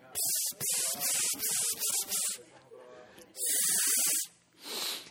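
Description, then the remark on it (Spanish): Someone imitates a Lysol aerosol spray can with their mouth: a quick run of short, sharp hissing bursts, then two longer sustained hisses, fairly loud. “Y me acuerdo que le echábamos spray, Lysol.”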